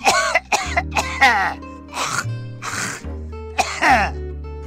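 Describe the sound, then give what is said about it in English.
An old man next door coughs and clears his throat, over and over: harsh, wet, phlegmy hacks with gravelly groans in between, roughly six loud bursts with no speech. “We lay there a while longer, holding hands in the cool tropical night breeze, watching the shimmering lights of long dead stars, and pretending we weren't listening to an old man drowning in his own phlegm.”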